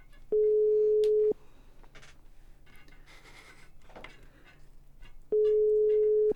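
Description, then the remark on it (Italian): A telephone ringback tone: two steady one-second beeps separated by about four seconds of near silence, heard clearly over faint background noise while the call goes unanswered. “Il telefono is rang.”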